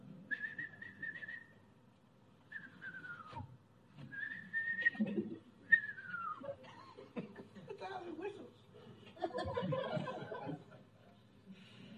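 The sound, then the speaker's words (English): A person whistles four times in quick succession, steady notes alternating with falling glides, imitating the whistle of a dove's wings as it begins and ends flight, with chuckling and voices mixed in. “The wings of a dove. It's whistling.”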